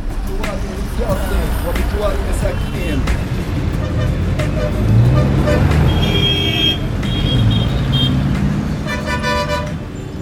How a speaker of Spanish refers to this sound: Varios son los sonidos característicos de Gaza. Este es uno de ellos, el de su intenso tráfico en las horas punta, retenciones y caos circulatorio en las principales calles en las que comparten carril coches de última generación y otros destartalados